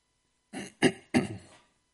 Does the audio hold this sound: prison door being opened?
no